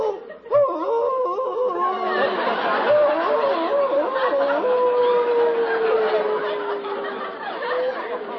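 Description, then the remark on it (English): A man kneeling at the edge of a rock howls like a wolf, a long wavering cry that rises, warbles, then slides slowly downward, loud, with a few other voices faintly mixed in. “Howling like a wolf.”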